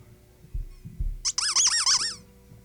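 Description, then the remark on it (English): A couple of soft low thumps, then a loud, wavering squeak like a celery stalk being twisted, rising and falling in pitch for about a second before stopping. “And this is my celery.”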